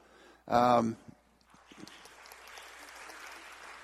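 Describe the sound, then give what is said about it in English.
A short, loud voiced exclamation rings out, then scattered clapping begins and swells into steady, moderately soft applause from a group that continues to the end, applauding a couple's one-year anniversary on Communion Sunday. “Who started that applause?”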